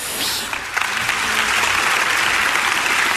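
Steady audience applause fills the space, a dense, continuous patter of many hands clapping at fairly loud volume, building quickly in the first moment and sustaining evenly throughout.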